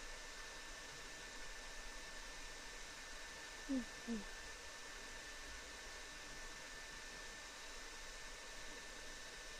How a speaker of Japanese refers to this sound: はい、ドライヤー完了。